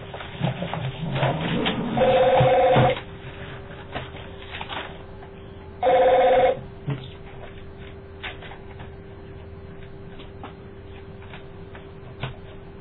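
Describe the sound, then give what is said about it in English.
A phone is plugged in to charge, giving two short, bright electronic tones a few seconds apart over a low steady hum and faint handling noises. Nobody speaks. “One second, I'll just plug my phone.”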